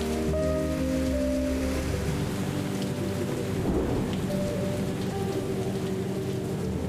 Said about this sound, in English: And now we're on the tractor, all of us together, and we're gonna go back to the visitor center and wait for the hail to let up so we can continue.